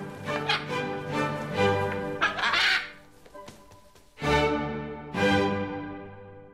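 parrot squawking

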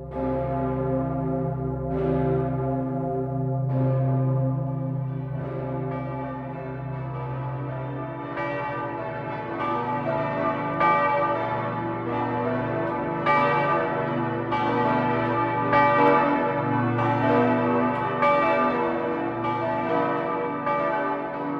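large cathedral bell ringing

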